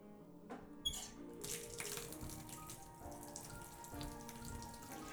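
water running

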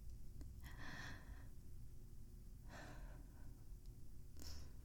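a sharp gasp

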